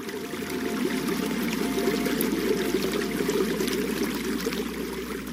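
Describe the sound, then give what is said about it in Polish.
A small stream trickles and babbles steadily, a continuous bubbling wash of water with no voices, holding a fairly even level throughout. “Ta zeszła z drogi i ruszyła w stronę małego strumyka, którego z pewnością wcześniej nie było.”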